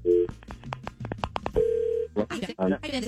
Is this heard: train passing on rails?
no